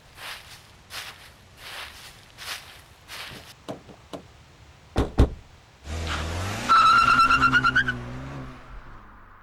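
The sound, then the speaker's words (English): Footsteps crunch along, a couple of sharp thumps follow, then a car engine roars to life and the tires squeal loudly as it speeds away, the whine rising in pitch. “To my car. I'll take us home.”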